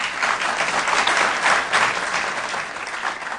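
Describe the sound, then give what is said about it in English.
An audience claps steadily for a few seconds, voting by applause on whether dealing with the state's water problems should be a top priority: dense, continuous applause that swells slightly in the middle before easing off, with no one speaking over it. “If you think it should be, let's say, the first or second top, you know, really high in the priority list, why don't you applaud?”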